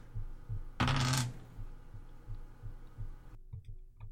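A short, loud clatter of many small six-sided (D6) Shadowrun dice being rolled together, lasting about half a second, with a faint steady low thumping in the background before and after.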